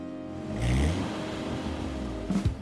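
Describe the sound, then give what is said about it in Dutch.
An Aston Martin sports car engine revs up with a deep, loud roar that rises and settles into a steady rumble, then a brief sharper rev near the end. No one speaks. “Dus ook unieke en bijzondere auto's zoals deze Aston Martin.”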